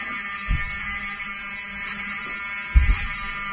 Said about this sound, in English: Open the door. I want them to hear the fire alarm. Open the door. I want people to hear this live to the 16 million people listening.